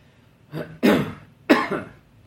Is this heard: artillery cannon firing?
no